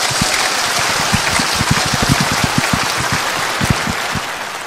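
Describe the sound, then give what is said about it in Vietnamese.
A big round of applause welcoming the Venerable abbot of Hội Khánh ancestral temple, Bình Dương, to give a dharma talk to a Buddhist assembly: many hands clapping in a dense, steady crackle that holds at an even, loud level for several seconds, with no voices. “Xin quý vị cho một tràng pháo tay thật lớn.”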